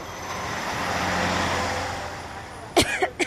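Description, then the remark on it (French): A truck's deep engine rumble swells as it drives past, giving off black exhaust smoke, then fades away, followed near the end by two or three sharp, abrupt coughs. “Regardez la fumée noire que ce camion dégage.”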